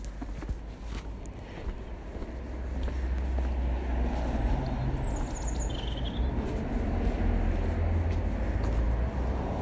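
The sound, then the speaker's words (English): A steady rumble of constant traffic on a narrow main road into town fills the scene, a continuous wash of engine and tyre noise that swells slightly after the first few seconds, with faint bird chirps high above it. “Okay, I'm definitely getting into town because there's this constant stream of traffic down this narrow main road.”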